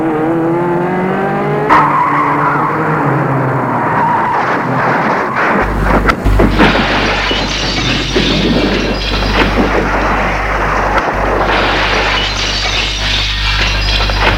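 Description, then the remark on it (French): A car's tires squeal in a long, rising skid, then a loud crash bursts in around the middle as the car drives into a shop's display window, followed by sustained rumbling, scraping noise and the window glass breaking. No one speaks. “La voiture est entrée dans la vitrine d'un magasin. Et ça a brisé les vitres.”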